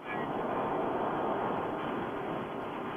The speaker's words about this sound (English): He's on the subway.